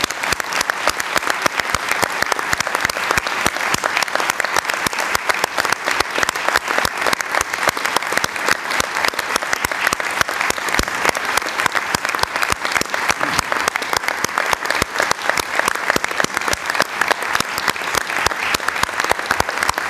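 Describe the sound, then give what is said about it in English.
Sustained applause from an audience at a Commission meeting, a round of applause for Bill Hogarth: a dense, even patter of many hands clapping at steady loudness for the full twenty seconds, with no voices rising above it. “I would like to request the Commission a round of applause for Bill Hogarth on this occasion.”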